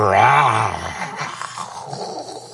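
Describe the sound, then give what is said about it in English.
A deep, guttural human growl rises and falls for about a second, loud, then trails off into rough, breathy rumbling and faint background noise. “That one growled at me.”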